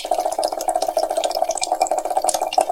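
Water runs steadily into a cooking pot, put on to boil for pasta, a continuous splashing stream with a hollow, resonant tone, fairly loud, with no voices.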